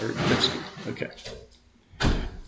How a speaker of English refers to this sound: Could you close that door, please